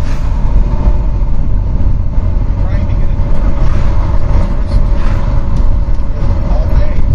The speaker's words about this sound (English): Wow, the cars. It's coming in the back because the window's open too.